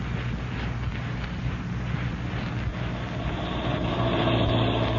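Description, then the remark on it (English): A car drives a few miles to Hyla's Cabins with a steady, low engine rumble and road noise, continuous, swelling slightly toward the end. No one speaks. “You drove me so close to this door, you can sit right here and still satisfy those nosy ears of yours.”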